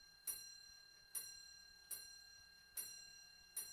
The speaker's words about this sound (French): La pendule sonna 11 heures.